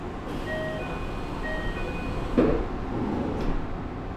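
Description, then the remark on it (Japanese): Over the steady rumble of a train, a few thin warning tones sound, then the doors slide shut with a soft thud, followed by a lighter knock a moment later. “ドアを閉めます。ご注意ください。”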